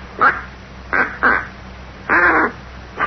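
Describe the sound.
A duck call gives four nasal quacks in an uneven rhythm, three short ones and then a longer, drawn-out final quack, with no talking.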